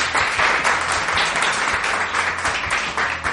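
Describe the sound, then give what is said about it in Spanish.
An audience gathered in a bar bursts into sustained, dense, loud applause, with a steady wash of many hands clapping at once and a faint undercurrent of voices calling out. “Algo ecléctico, quizás, eso sí, pero que si tiene que aplaudir, aplaude, y si tiene que gritar, grita. ¡Que se os oiga!”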